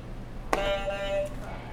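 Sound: game buzzer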